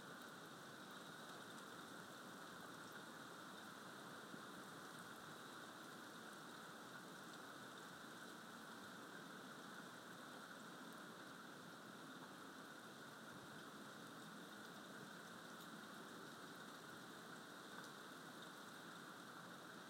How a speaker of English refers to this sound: I think the thunder's getting closer. And it's raining.